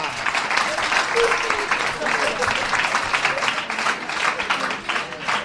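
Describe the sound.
Sustained audience applause for a team member introduced on the Despierta UMH programme, a dense steady wash of many hands clapping at a fairly loud level for several seconds, with a faint voice briefly audible underneath.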